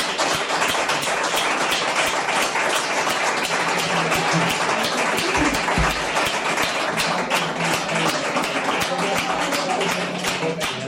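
Loud, sustained applause from an audience, a dense crackle of many hands clapping at once that fills the whole clip without pause.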